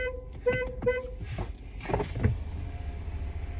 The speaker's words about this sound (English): I'm gonna get real close to him. Maybe I will honk in front of these people. I don't care.